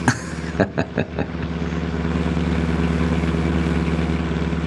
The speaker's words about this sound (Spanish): El carro vuela sobre la autopista